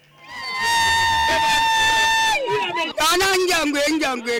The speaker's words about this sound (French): Des chants rituels soutenus par des éloges funèbres, une foule en liesse. Nous assistons à la cérémonie funéraire du patriarche de Djambé, village perché sur la falaise de Banjagara, à plus de 600 km de Bamako, la capitale malienne.